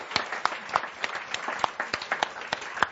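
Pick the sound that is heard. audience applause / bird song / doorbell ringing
audience applause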